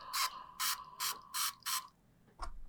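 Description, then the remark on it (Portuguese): Five quick, evenly spaced hissy bursts from a small throat spray pump used for a sore throat, fairly loud, followed by a faint click. No one speaks. “deixa eu só botar um spray aqui pra minha gargantinha.”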